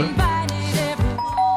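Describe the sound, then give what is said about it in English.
A doorbell rings out a loud, multi-note electronic chime, its ringing tones stepping down and then back up in pitch over about a second and a half, with no talking. “There goes the door.”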